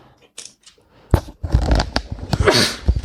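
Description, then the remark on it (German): Someone sneezes twice: a sharp, abrupt first burst, then a second, longer and noisier sneeze that trails off, with faint rustling beforehand. “Sorry, ich muss immer zweimal niesen.”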